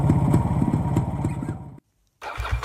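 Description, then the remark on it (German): A small 50 cc Vespa scooter engine runs with a steady, chugging idle, cuts out briefly into silence, then starts putting along again. “Das andere war übrigens meine Vespa, eine 50er”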